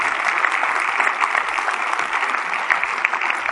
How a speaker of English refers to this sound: Can we get a big round of applause for all those guys?